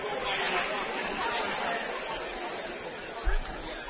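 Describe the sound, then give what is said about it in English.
A steady wash of crowd chatter fills an arena as fans arrive before a Shore Conference basketball game involving Manasquan and Vianney, many overlapping voices blending into a constant, unintelligible murmur, with one brief low thump near the end. “Crowd filling in nicely. There's still some seats, not a whole bunch.”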